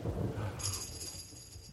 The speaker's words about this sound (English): Yeah, there it is right again. I heard the thunder.